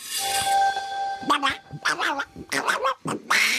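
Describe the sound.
The cartoon voice of Disney's Donald Duck quacks angrily in rapid, garbled bursts, sputtering and squawking, with a sustained tonal hum underneath at the start.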